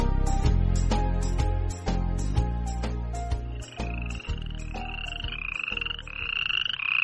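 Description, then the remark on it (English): Two frogs croaking near a pond in a steady, loud rhythm, the calls repeating about twice a second with a higher chirping tone rising in toward the end. No one speaks. “Two frogs are playing near a pond.”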